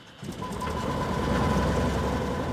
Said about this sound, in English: He starts the engine for his Cessna propeller plane and takes me on a guided tour over Pacific Lumber's 211,000 acres. He shouts over the roar of the engine while describing the landscape.